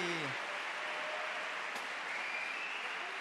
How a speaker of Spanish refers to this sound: Un aplauso, por favor.